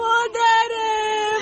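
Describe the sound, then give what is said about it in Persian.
A woman wails in a sustained, high-pitched cry that holds a steady tone, broken by one brief catch of breath, loud with no other sounds around it. “بچه شده گریان میکنی.”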